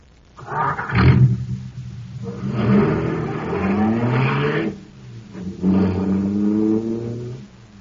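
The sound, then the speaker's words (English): A powerful car engine, supercharged with super fuel, roars and revs loudly, its pitch climbing in two long surging bursts with a short lull between them, after an initial sharp rumble. “Boy, that cosmic surface car is really roaring.”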